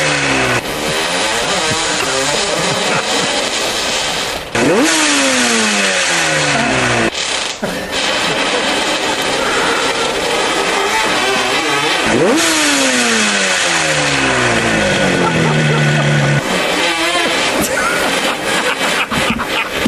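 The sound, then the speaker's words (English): Loud motorcycle engines on a muddy track rev repeatedly, pitch climbing and dropping in a series of throttle bursts over a constant mechanical roar, with no talking. “Clearly, that one bike needs a tune-up, clearly. Throwing spark plugs, revs and Wilton flowers.”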